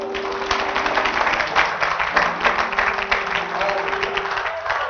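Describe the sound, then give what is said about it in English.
A church audience claps hands in a dense, steady burst of applause lasting throughout, answering a call to clap if they know God is good, with a faint sustained tone and murmuring voices underneath. “Clap your hands if you know God is good.”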